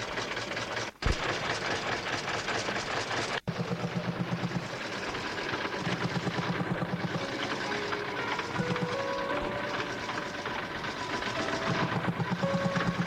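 A car engine runs steadily and loudly throughout as the car drives through a hot, sandy desert landscape, with a low throbbing rumble, a couple of brief cut-outs early on, and a whining pitch that climbs gradually as it goes.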